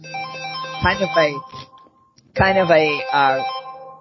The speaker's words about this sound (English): Somebody's got a phone ringing.